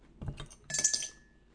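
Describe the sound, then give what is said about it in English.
A beer bottle top drops into a glass of lager: a dull knock first, then a bright ringing clink that hangs briefly before fading. Fairly quiet, with no talking. “I think I may need to fish the bottle top out of my glass now.”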